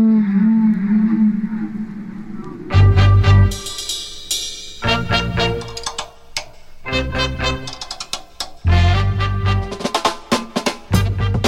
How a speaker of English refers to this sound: And we'll hear from the whales themselves. They were actually singing songs. Seriously, songs.